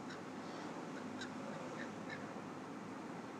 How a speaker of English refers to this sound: Cue crows.